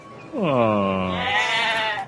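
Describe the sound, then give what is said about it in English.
A single long, loud sheep bleat, wavering as it slides down in pitch before trailing off, with no other sounds around it. “but I love this part because they come across some sheep, and so they're kind of like looking at the sheep, and the camera, you know, is full screen.”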